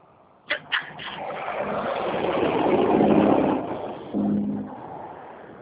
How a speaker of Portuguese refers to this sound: Tá muito barulho, eu estou aqui numa portaria, o caminhão já tá saindo.